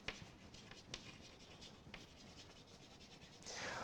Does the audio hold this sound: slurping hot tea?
no